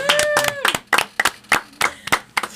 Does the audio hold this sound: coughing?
no